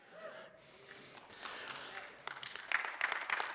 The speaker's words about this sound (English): So, applause throws me off. I'm not used to that. So, no, it's not for me, it's for him.